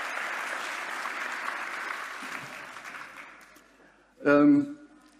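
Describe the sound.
Steady audience applause, a dense wash of clapping that gradually fades over four seconds, then a short burst of a voice speaking.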